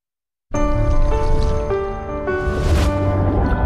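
After a brief silence, a bathroom tap suddenly runs full, a steady rush of water with a faint ringing tone in the pipes, continuing without a break.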